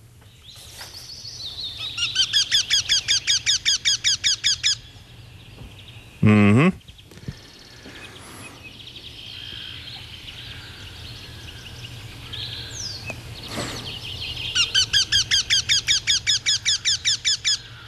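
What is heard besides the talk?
eurasian wryneck call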